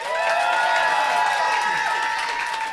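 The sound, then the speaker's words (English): A live audience cheers loudly and continuously to vote for which of two contestants has won, a dense wash of shouts, whoops and some clapping at a steady high level for a few seconds. “So I'm going to ask for some cheers. If you think that Dave wins, cheer now.”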